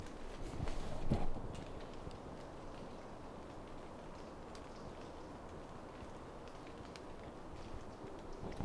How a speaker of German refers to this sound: Ja, ich schätze, man hört es ganz leise. So das Plätschern von den Blättern.